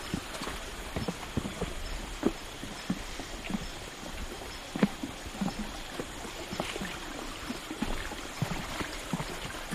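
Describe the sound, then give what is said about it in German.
The Irene Falls, one of the many waterfalls at Brownsberg, rushes steadily, its broad hiss of falling water broken by frequent sharp splashes and knocks against rocks. No one speaks. “Nu bij de Ireneval, dat is een van de watervallen bij de Bronsberg.”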